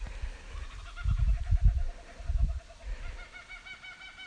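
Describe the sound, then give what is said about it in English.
A kookaburra's laughing call rings out in rapid, rhythmic cackling bursts that rise and fall across several seconds, with some low rumbling thumps underneath and no talking. “A kookaburra doing its thing for us.”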